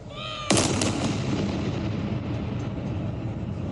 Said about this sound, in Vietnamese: Loạt súng chào được bắn tại tháp London và khắp thủ đô, đất nước, ở Gibraltar, Bermuda và trên các con tàu London trên biển.